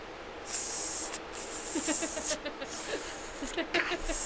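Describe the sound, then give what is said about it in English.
A voice makes repeated hissing, sliding sounds in short bursts, imitating ice skates gliding and scraping, with brief pauses and faint vocal murmurs between strokes, fairly loud. “I would lose the snake sound.”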